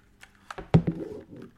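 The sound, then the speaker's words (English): A short burst of typing on an old-fashioned computer keyboard plugged into a Mac, several sharp, clacky keystrokes in an uneven rhythm, fairly loud, with one heavier strike in the middle. “A keyboard. An old-fashioned keyboard. Here she is.”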